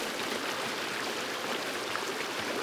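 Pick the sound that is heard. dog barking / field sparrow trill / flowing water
flowing water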